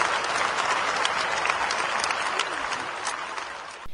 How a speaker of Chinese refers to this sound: 达赖喇嘛法王14世，ありがとうございました。大きな拍手でお見送りください。